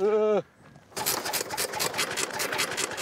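The engine of an early car made in France, one of the very first cars sold in great numbers, being started: it catches after a brief pause and settles into a loud, rapid chugging clatter with a steady rhythmic pulse. A short, sustained tone sounds before it.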